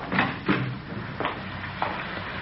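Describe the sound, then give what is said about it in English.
A side door opens and shuts, with a few quick wooden knocks and clunks spread over a couple of seconds and faint background noise between them, no voices. “You go out the side door, then.”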